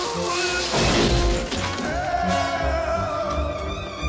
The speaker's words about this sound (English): The tree stump shatters.